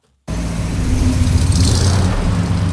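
A vintage 1941 American Cadillac's engine starts up abruptly and runs with a deep, steady rumble that swells slightly as the car drives off, loud, with no voices.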